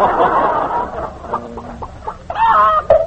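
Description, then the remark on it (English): A pet chicken named Tilly, perched on a man's knee, clucks in a run of short, scattered clucks building to a louder, drawn-out squawking cluck near the end, with no voices. “Hey, you, get that chicken off your knee.”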